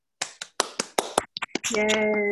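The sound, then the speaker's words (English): A short, sparse round of applause for OA abstinence during medallion recognition at an OA meeting: about nine crisp, uneven claps over a second and a half, then a sustained voiced cheer rings out as the clapping ends. “All other abstinence, OA abstinence, is given a round of applause.”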